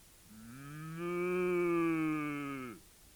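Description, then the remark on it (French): A single long cow moo, loud, holding a low, droning tone for a couple of seconds before trailing off, with no other sounds around it. “Mon Dieu ! S'écria la vache orange.”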